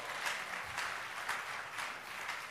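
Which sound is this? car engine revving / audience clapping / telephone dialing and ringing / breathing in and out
audience clapping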